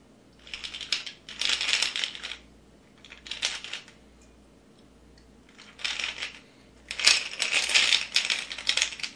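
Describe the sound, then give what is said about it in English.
Ice rattles inside a cocktail shaker in about five uneven bursts of bright, clattering noise separated by short pauses, with no one talking, as someone tries to get something out rather than shaking the drink, a stirred cocktail made with bitters and vermouth. “I know you hear the ice, but I'm trying to get the thing out.”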